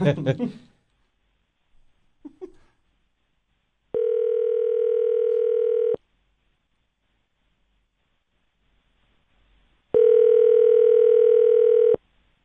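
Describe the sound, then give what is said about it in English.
A phone line rings back twice, each steady electronic tone lasting about two seconds with a long silent gap between, clear. Brief voice sounds come before the rings, and nobody picks up. “Like having celebrity friends that don't answer their phone when you call.”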